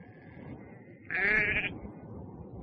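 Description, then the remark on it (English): A single sheep bleats once, a loud, wavering cry lasting about half a second, set against a steady low background rumble with no one speaking. “He looked after sheep.”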